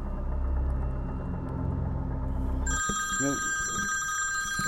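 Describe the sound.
A low, steady rumble fills the opening, then a phone starts ringing with an incoming call in a dark forest where a tent is pitched, a sustained, bright electronic tone that holds to the end. A short burst of voice sounds beneath it.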